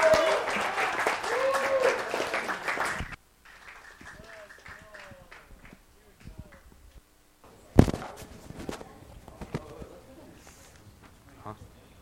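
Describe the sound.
At a church service, a loud, dense burst of audience applause for a speaker coming up to share fills the first few seconds, then stops abruptly, leaving quieter room noise, a few scattered voices and a sharp thump.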